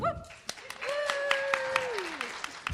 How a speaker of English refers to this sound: Yes, you can applaud. You can... Yes, that's what we wanted. Thank you, guys.